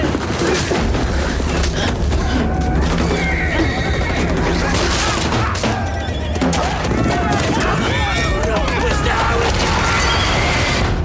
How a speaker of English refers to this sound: just to give people some image in their mind of what goes with all that grunting and horse neighing, what's happening in that scene? That's the scene where he is riding a horse that he is, or a pony really, that he's stolen